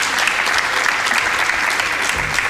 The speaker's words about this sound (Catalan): Moltíssimes gràcies. Gràcies a vosaltres. Un aplaudiment per a ells, sisplau.